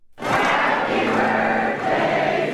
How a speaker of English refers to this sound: A crowd breaking out in an impromptu rendition of Happy Birthday to President Obama at the end of a Presidential Citizens Medal ceremony in the East Room today. President Obama is 49 years old.